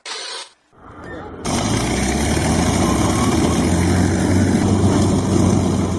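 A brief hiss and low rumble give way to a loud, steady propeller aircraft engine roaring, droning continuously with a dense low-frequency throb, as the engine is started using a ground power unit attached to the aircraft.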